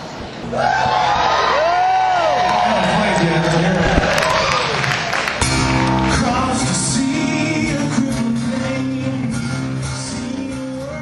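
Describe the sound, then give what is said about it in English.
A large concert crowd roars and cheers for about eleven seconds as a singer comes out on stage with a blue acoustic guitar, a loud steady wash of noise with rising whoops and yells cutting through, plus scattered clapping. “Pretty good crowd right there, wanting … to get rocking and rolling, but he came out with this absolutely beautiful, it was like a aqua blue, I'm not even sure what brand it was.”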